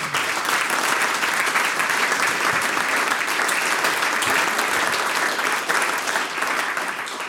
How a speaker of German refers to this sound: So, ich darf jetzt... einen Mann auf die Bühne bitten, den man untrennbar mit der Volksmusik, mit der Volkskultur im Burgenland verbindet. Mit einem großen Applaus kommt er auf die Bühne